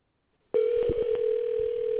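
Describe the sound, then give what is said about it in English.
A steady electronic telephone ringing tone for a phone call to a car wash begins abruptly after a brief silence and holds at an even, fairly loud level to the end, with a few faint clicks underneath. No one speaks. “So I take this phone call.”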